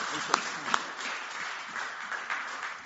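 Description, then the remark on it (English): An audience claps together as a clap offering to the Lord for a new life, a steady, dense wash of applause, with a couple of sharper individual claps standing out early on. It holds at a moderate level throughout. “So shall we just give the Lord a clap offering for this new life?”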